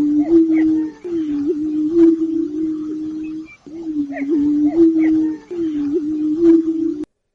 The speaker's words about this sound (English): April is time of spring when prairie chickens are at their finest. Males strut and boom their calls from elevated landscape features.